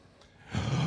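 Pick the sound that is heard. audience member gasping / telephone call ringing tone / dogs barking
audience member gasping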